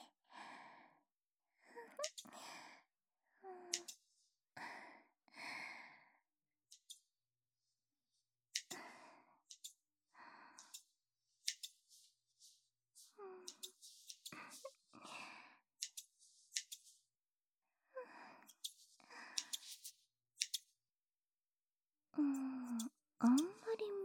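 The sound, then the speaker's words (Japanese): Scissors snip in a long series of crisp, quick cuts, grouped in irregular bursts with brief pauses between them, fairly loud against an otherwise quiet background. “ハサミのチョキチョキって音、気持ちいいですね。”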